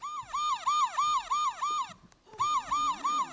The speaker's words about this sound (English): Shireen, give me some sound effects. Cue the sirens.